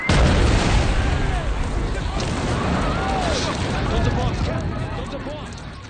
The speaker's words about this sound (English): You can almost feel the shockwave as joy turns to horror. And 13 seconds later, another explosion.